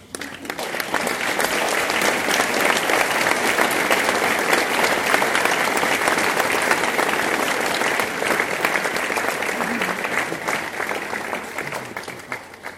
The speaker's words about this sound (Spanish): Y en honor a los compañeros caídos, pido un fuerte aplauso, compañeros.